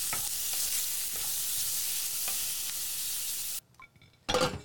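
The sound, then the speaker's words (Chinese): Steady, loud sizzling of food being stir-fried in a hot pan as a meal is cooked at home, with faint periodic scraping strokes, a brief quieter break, then a renewed burst of sizzle. No voices. “妈妈说五分钟就可以吃饭了，可是她根本就还没有做好菜啊！”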